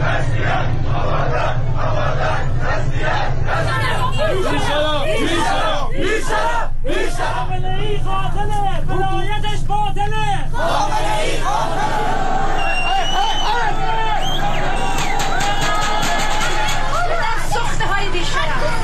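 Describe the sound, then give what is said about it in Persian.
A large street crowd shouts and chants together in a loud, continuous roar, many voices rising in rhythmic bursts of protest slogans over a steady rumble of noise, at a demonstration in Andimeshk and Behbahan, Iran, held in solidarity with Abadan. “ویدیوها و تصاویر منتشر شده در آبادان از درگیری میان مردم و نیروهای گارد ویژه حکایت داشت و در اندیمشک و بهبهان نیز مردم در همبستگی با آبادان تظاهرات کردند.”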